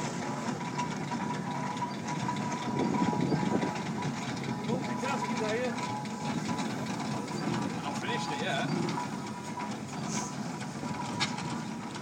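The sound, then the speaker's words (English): A steam lorry passes with a soft, steady hiss over a low mechanical rumble, holding an even level throughout, while faint voices murmur underneath. “That is quiet, isn't it, that one? Yeah. Just hissing.”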